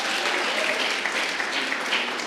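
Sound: audience clapping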